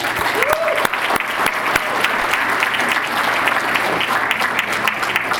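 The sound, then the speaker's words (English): Sustained, rousing applause from a large audience for a rabbi present in the room, a dense, steady wash of clapping at a fairly loud, even level with scattered sharper claps standing out, continuing for several seconds without pause. “Let's give him a rousing round of applause.”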